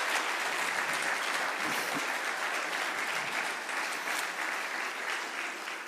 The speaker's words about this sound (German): Und können wir einmal allen einen Applaus geben, die da mithelfen beim Putzen? Komm, heute machen wir das, gell?